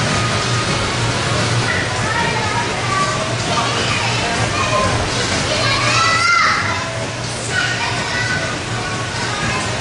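Children play and shout in an echoing hall while birthday party guests are still gathering, their high voices overlapping continuously against a steady background hum, no single voice standing out.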